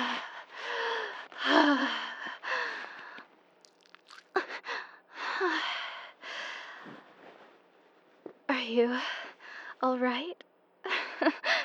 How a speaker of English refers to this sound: Breathing pretty hard.